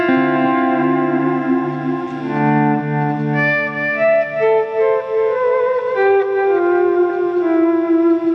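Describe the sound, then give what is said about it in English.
Sustained ambient guitar chords played through a G System effects unit swell and overlap in a wash of reverb and echoing delay, with a gentle wavering modulation; the notes shift slowly downward and ring together, with no voices. “And then, you know, with a bit of modulation and a bit of delay and a bit of reverb”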